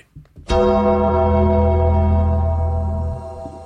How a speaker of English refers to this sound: That bell just scared the crapples